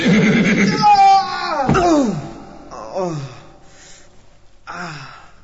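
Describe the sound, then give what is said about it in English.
A horse neighs loudly, a long quavering whinny that slides downward, followed by two shorter, softer whinnies with pauses between them. “No sooner did the Prophet sallallahu alaihi wasallam finish his prayers before the horseman was thrown down from his horse.”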